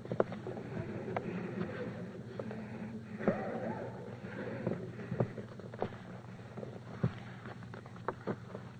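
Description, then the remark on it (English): Crinkling and rustling of a blank sheet of paper being folded into a boat, with irregular sharp creasing snaps scattered over a soft continuous shuffle; no one speaks. “This piece of paper I shall now make into a boat.”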